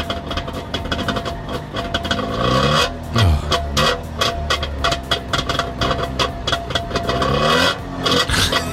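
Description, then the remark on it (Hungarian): A small two-stroke Trabant car engine cranks into life and revs unevenly, with sputtering bursts and a rattly, buzzing idle. No one speaks. “Így indulnátok, Anett, az étterembe így mennétek”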